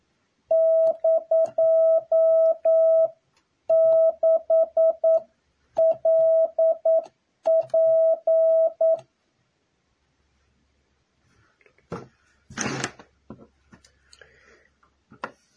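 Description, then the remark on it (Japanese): Japanese wabun Morse code sent as a copying practice exercise at slightly increased speed, a steady, clear beeping tone in four quick bursts of dots and dashes, followed by a pause and then some brief rustling and scratching noises. “和文の71回目です。今日からほんのちょっとだけスピードアップします。”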